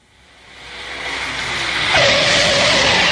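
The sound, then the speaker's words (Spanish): A car's tires squeal as it skids to a stop as evening falls, a rushing roar building loudly, then a sharp, steady screech cutting in near the end. “El carro ya se paró y está cayendo la tarde.”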